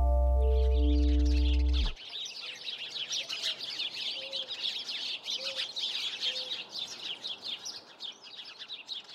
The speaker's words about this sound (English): The thing I do know is that the birds in my neighborhood chirp loudly twice a day for a couple of hours, and I like that.